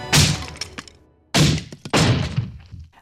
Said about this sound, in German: Aha. Der Hammerdieb probiert einen Hammer nach dem anderen aus. Und dabei macht er offenbar einiges kaputt. Aber was wird denn da zerstört? Könnt ihr das Material erkennen? Ist das Porzellan, Metall, Holz oder Stoff?